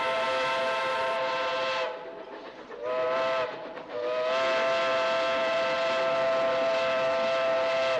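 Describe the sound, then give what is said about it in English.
A train's steam whistle blows loud over the rushing rumble of the train as it thunders through cold, dark forest wilderness, its chord dipping briefly twice before holding steady to the end. “We traveled through cold, dark forests where lean wolves roamed and white-tailed rabbits hid from our train as it thundered through the quiet wilderness.”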